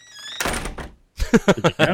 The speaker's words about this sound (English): Oh, the door closed. Hang on. I have something for door closing, too.